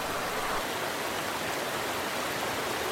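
Steady, full-bodied rush of running water from an overflowing water feature, continuous with no pauses and no voices.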